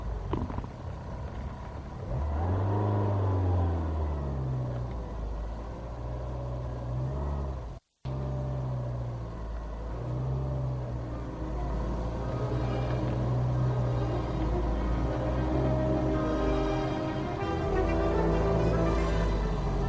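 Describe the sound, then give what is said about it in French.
A car engine hums and revs steadily, its pitch rising and falling through gear changes as the vehicle pulls away into the night, with a brief cut in the sound partway through. “Et la voiture file dans la nuit.”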